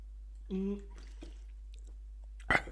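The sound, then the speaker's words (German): Exaggerated drinking noises as a person demonstrates drinking loudly: a throaty, voiced gulp, a few small wet clicks of swallowing, then a sudden loud slurp or gulp near the end. “So, ja, so, und ich so hoffe, ich hoffe, die Schlucken ist mit drauf, weil das so abartig ist.”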